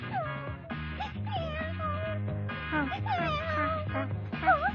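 A cat meows several times with rising and falling cries, set against steady background music that plays throughout at a moderate level.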